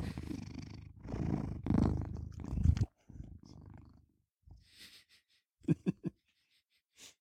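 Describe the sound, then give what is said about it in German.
A male cat purrs loudly in a steady rumbling stretch, then trails off into softer, broken purrs and a few short bursts, with pauses of quiet between them. “Möchte dein Kater etwa auch was zu der Folge sagen?”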